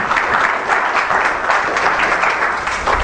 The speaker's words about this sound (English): Give Him a hand of applause in His house.